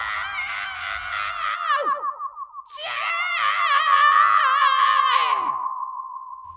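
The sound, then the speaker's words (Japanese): A man screams in agony at night in two long, strained bursts, the first breaking into shuddering sobs before a louder, sustained wail that trails off. Loud, with no other sounds. “やがて痛々しい男の叫び声が混ざって聞こえてきます。”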